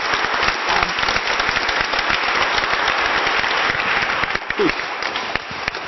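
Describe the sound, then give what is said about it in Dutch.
An audience applauding the speakers steadily, dense overlapping claps filling the whole stretch at an even, fairly loud level without any speech. “Ik wil graag een hartelijk applaus voor onze sprekers.”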